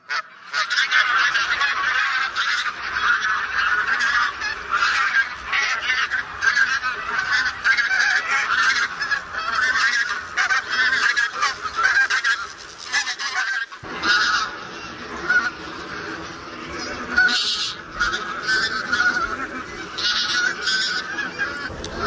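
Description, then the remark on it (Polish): A dense, noisy chorus of taiga bean geese and barnacle geese honking continuously, many birds calling over one another at once, loud, with a brief dip before the clamor resumes; the geese are gathering for migration. “Rozwrzeszczały nam się teraz wspólnie i zbożowa, i bernikla, ale wszystkie te nasze gęsi gdzieś tutaj tak wędrują i przelatują, bo przecież obserwowaliśmy je na przelotach.”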